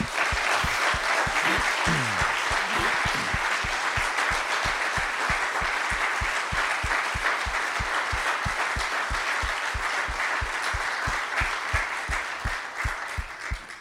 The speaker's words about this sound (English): And actually, I'm going to just ask graduates, if you just stand right now where you're at, and the rest of us, let's give a huge round of applause to these guys.